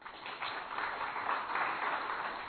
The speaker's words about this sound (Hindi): किसके लिए ताली बजाई? परमात्मा के लिए, कि हम जो नीचे एकदम बॉल गिर चुका है, अब परमात्मा अपने को उठाने के लिए आया है।